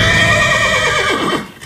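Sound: horse neighing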